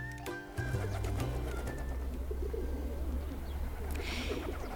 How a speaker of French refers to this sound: Et dans cette émission, je vous invite à explorer le monde du pigeon. Le pigeon est un oiseau qui ne laisse personne indifférent.